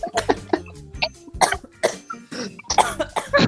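A coughing fit with choking: a rapid string of harsh, loud coughs, about a dozen bursts in quick irregular succession, with brief wheezy gasps between them and no speech.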